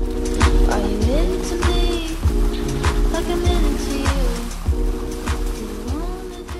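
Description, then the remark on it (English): Lake sturgeon thrash and splash repeatedly while spawning in shallow water along the shoreline of the Wolf River, a steady run of choppy slaps over constant rushing flow, with a faint tonal hum drifting underneath. “And over the past year, the DNR has posted about 150, like this watery one with a caption that reads, "Lake sturgeon have started spawning along the shoreline of the Wolf River."”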